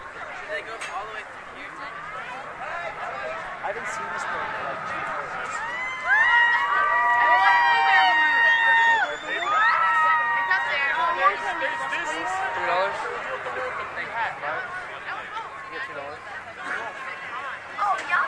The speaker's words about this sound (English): I hear screaming. I hear cheering from that direction.